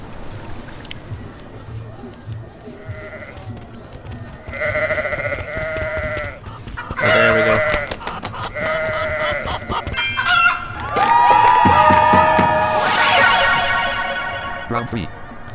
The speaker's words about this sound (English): Oh wow, is that goats, it?